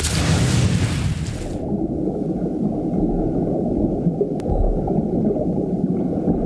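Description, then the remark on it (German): A loud splash as a man jumps into a flooded cargo hold, quickly giving way to a steady, muffled underwater rumble and gurgling that continues to the end, with no voices. “Und springt dann in den überfluteten Frachtraum.”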